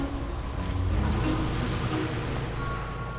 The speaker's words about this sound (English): The car drives off.